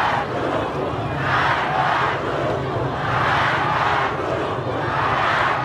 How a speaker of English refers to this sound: Hundreds of students gathered in central Tehran chanting slogans, denouncing Iranian leaders as liars.